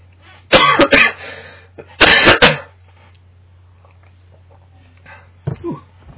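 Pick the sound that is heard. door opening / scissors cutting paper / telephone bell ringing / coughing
coughing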